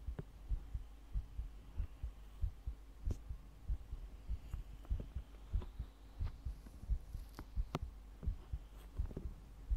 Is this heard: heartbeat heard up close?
yes